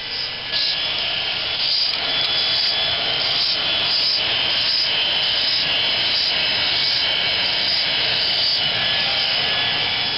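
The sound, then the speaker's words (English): A dental drill whines steadily at a high pitch, loud and continuous, with brief repeated surges about once a second as an operator drills a small hole in the air sac end of eggs one after another, just through the shell but not the shell membrane. “Now the operator is getting ready to start her dental drill, and the eggs will be drilled just through the shell, but not through the shell membrane.”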